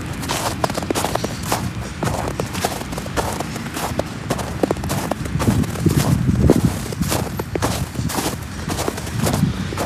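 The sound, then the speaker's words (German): Steady footsteps crunch through snow, each step a crisp, crackly squeak in a continuous rhythm for the whole stretch, with a low rumbling texture underneath and no voices. “Das sind ja wirklich schöne, beruhigende Geräusche durch den Schnee laufen.”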